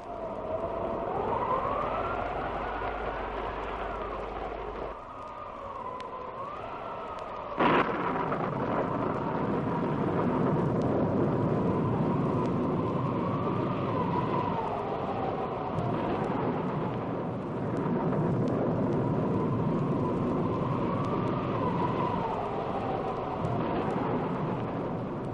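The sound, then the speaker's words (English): A raging storm with wind howling in rising and falling wails over a constant roar, broken early on by one sharp, loud thunderclap before the tumult carries on unbroken. “'Tis a wild night. My Regan counsels well. Come out of the storm.”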